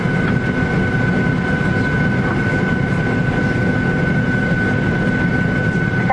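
A steady, loud engine drone fills an aircraft cabin during flight 88 bound for Tokyo, a constant low roar with a faint high whine running through it and no one speaking.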